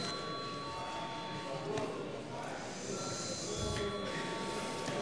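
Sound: parliament chamber bell ringing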